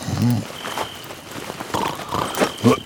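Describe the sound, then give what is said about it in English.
Horses moving through grass at an old fort with broken-down walls, with a steady rustling swish and a couple of low snorts near the start and end, moderately loud. “He dozed off, only to be awakened suddenly by the sound of horses moving through the grass.”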